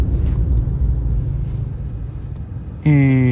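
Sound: car driving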